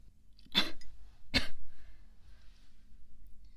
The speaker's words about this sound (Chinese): 不碍事。说了今日风大，吹了一会风，咳嗽也是正常的， 不是什么大毛病。